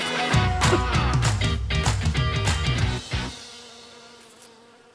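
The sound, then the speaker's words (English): A dense, droning buzz of a honeybee swarm, many wings humming together loudly for about three seconds before the sound fades away into a quiet tail. No voices are heard. “the whole group goes, and with a matter of a couple of minutes, the whole swarm, which might be 10,000 bees, disappears and moves into the new spot.”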